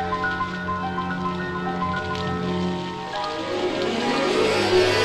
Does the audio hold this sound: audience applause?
no